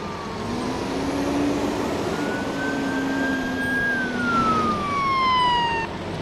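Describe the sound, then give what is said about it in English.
Wailing police sirens rise and fall over a steady rumble of traffic and idling engines as several vehicles converge on a mock accident scene during a mass-casualty training drill in North Adams; no one speaks. “The drill starts like a real accident, with police the first to arrive on scene.”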